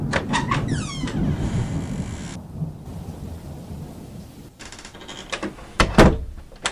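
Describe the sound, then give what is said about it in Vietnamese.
A recording studio door creaks open with a squeaky sweep, followed later by a couple of sharp thuds, all set against steady heavy rain and low rumbling thunder. “Có cần mở cửa không?”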